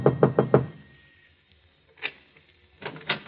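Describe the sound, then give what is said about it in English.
Four quick, solid knocks rap on a wooden apartment door on the top floor of an apartment house, followed by a quiet pause and then faint shuffling and handling sounds, with no voices. “Finally, he comes to an apartment house, climbs to the top floor, and knocks on the door.”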